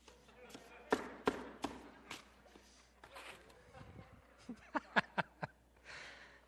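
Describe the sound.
Sharp, hollow knocks on a wooden board ring out, a few spaced raps followed by a quick cluster of four, with faint murmuring voices between them; the board is knocked to sound like a Mason.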